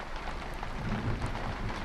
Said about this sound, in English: The rain hasn't stopped.